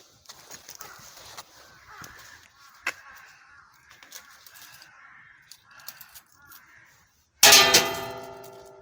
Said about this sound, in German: ich genau hier vor einem kleinen Schrein und mach mal der Schreingott, der Kami, schläft zwar schon, aber ich rüttel trotzdem mal hier an der Glocke. Ich muss also an der Glocke rütteln, am besten noch ein Stück, ein kleines Geldstück hineinwerfen.